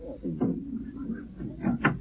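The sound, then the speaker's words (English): A few sharp knocks rap on a glass French door from someone standing outside, one early and then a quick pair near the end, over a low, steady room hum. “Sounds like someone rapping on the French door.”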